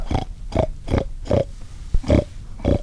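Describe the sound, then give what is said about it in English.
A hunter imitates a pig in the woods on a rainy day to lure a group of hogs closer, making a steady run of six short, nasal oinking grunts at an even pace, loud, with no other talking. “After zigzagging through the woods for more than an hour, they see a group of hogs, and he starts to make oinky noises to lure them closer.”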